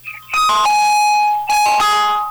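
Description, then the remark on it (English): Loud bell-like electronic ringing, like a doorbell, sounds in two strong bursts with steady tonal harmonics, each ring sustaining before a brief break and then returning. No one speaks. “It was real loud, like almost like a doorbell ringing.”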